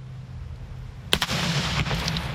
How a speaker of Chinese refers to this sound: 每年的7月4日是美国的独立日，为了准备庆祝活动，美国消费品安全委员会星期三演示了烟花造成的破坏力以及造成人员伤亡的潜在的可能性。